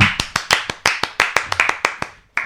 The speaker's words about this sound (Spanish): Aplauso, ahora sí.